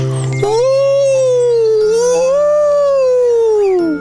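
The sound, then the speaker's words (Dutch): A loud village siren wails, climbing and sinking in two slow, long sweeps over a steady low hum, with no talking. “In het dorp luidt de sirene en alle honden staan paraat.”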